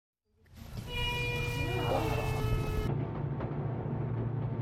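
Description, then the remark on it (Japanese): A steam locomotive's loud, sustained whistle blows a steady, rich tone for about two seconds over a deep rumbling engine, signalling departure from the platform on the Gokseong line toward Gajeong station. The whistle cuts off and the low chugging rumble carries on as the train starts moving. “力強い汽笛の音を合図に蒸気機関車が動き始めました。”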